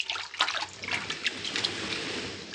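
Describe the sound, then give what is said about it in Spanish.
Gentle waves lap steadily at a beach at night, a soft continuous wash of water with small splashes and trickles rising and falling, with no voices. “Paulatinamente se inclina sobre el manso oleaje que llega a la playa.”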